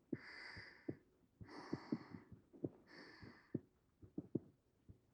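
A heartbeat heard against a chest thuds in a steady, muffled lub-dub rhythm, with three soft, slow breaths drifting over it. No one speaks.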